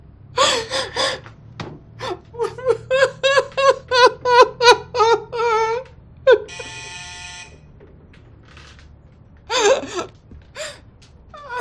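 A front doorbell gives a single short, buzzing ring after a run of rapid, rhythmic gasping sobs; a few more heavy breaths follow once it stops.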